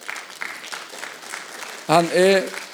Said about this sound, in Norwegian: Kan jeg gjerne gi en applaus til det?